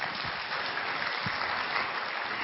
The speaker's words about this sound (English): So let us welcome Brijmohan Bhai with two hand claps.